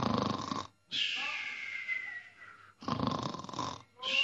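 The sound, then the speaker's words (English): A person loudly imitates snoring: rough, rattling snorts alternate with a drawn-out whistling breath, repeating in a slow rhythm over a few seconds. “You will snore and fall asleep.”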